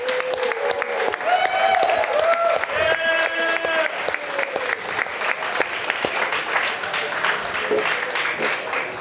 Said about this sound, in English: Come on up, guys, come on up. Let's give a big round of applause for ….